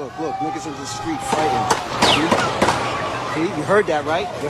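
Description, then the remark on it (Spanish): Several sharp gunshots crack out in quick, uneven succession over a noisy crowd, with people talking and shouting throughout, during a shooting in the street at Times Square, New York, while crowds celebrated a Knicks victory; recorded by tourists and aerial security cameras. “Podemos escuchar el sonido de los disparos.”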